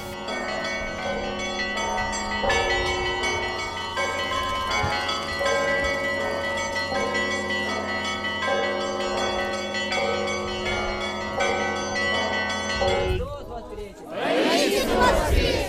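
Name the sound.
church bells ringing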